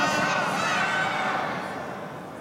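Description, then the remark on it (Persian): A large crowd shouts and cheers together out of love for Imam Hasan in a dense, continuous roar of many voices, loud, easing off slightly toward the end. “این فریادهای شما معلومه که به عشق امام حسن داریم اینطوری فریاد میزنیم.”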